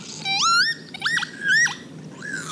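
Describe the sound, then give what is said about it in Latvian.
A male northern lapwing sings alone while flying fast in wide loops over fields: a few loud, wheezy 'pee-wit' phrases, each a sharp, harmonic-rich sweep rising and dipping in pitch, separated by short pauses. “Vislabāk un tālāk šīs melnbalta raibās un cekolainās pavasara vēstneses pamanāmas, ka ķīvīšu tēviņi plašos lūkos strauji un svaidīgi lido virs laukiem ar savu vienkāršo, bet skanīgo dziesmu.”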